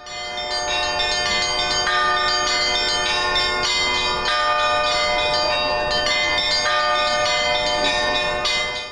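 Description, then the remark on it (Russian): Church bells ring out in a continuous, layered peal in the port town of Nevelsk on Sakhalin Island, welcoming the arrival of the Patriarch; many overlapping strikes sustain a bright metallic shimmer at steady loudness for the whole stretch, with no voices. “Колокольным перезвоном встречали жители портового города Невельска приезд святейшего патриарха Кирилла.”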